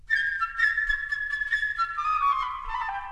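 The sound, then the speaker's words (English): A flute plays the bird's theme in a story, a bright, high, bird-like melody alone, with quick fluttering repeated notes over a sustained tone before the line drifts downward at the end. “Now, in this story, the bird is represented by the flute.”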